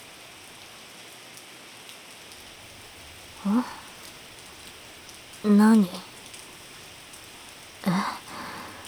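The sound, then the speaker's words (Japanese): Steady rain that has suddenly started falls throughout, a constant hiss of drops, while a voice speaks three brief questioning words over it. “見てわからない？雨が止むの待ってるの。傘持ってないから。”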